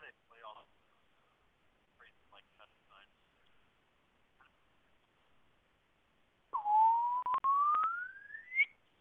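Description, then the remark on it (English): A loud, pure electronic test tone sweeps steadily upward in pitch for about two seconds, with a few sharp clicks partway through, following quieter, faint voice-like sounds. “Man, how do they play all those crazy, like, test sine waves and all that?”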